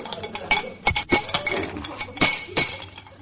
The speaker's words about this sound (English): These pipes must be feeder pipes. Feel a little loose. Oh, here's a wrench. We'll tighten them up.